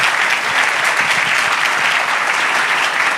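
A crowd applauds steadily, dense overlapping claps filling the room at a constant loud level, with no talking over it.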